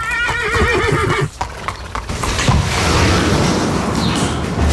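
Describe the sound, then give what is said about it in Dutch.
Uno Paradisio, a trotter that has won 110,000 euros in prize money, lets out a loud, quavering whinny, then rapid hoofbeats clatter and rumble steadily over a noisy, busy background. “Dit paard heeft 110.000 euro bij elkaar gewonnen aan prijzengeld.”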